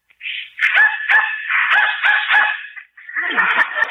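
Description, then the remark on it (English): A dog barks and yelps excitedly in a quick, continuous run of high-pitched, whining cries, fairly loud, pausing briefly before starting up again, in response to a dog whistle being blown. “Dog heard it, but I didn't.”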